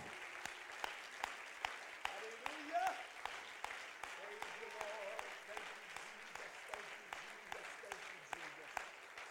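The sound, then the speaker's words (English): An audience claps hands to give God praise, in a steady, even rhythm, sharp beats landing about three times a second over a continuous wash of applause, with voices calling out underneath. “Let's clap our hands one more time unto the Lord and give God some praise.”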